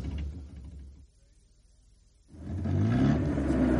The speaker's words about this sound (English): Okay, drop me here. And keep the engine running. We may have to leave in a hurry.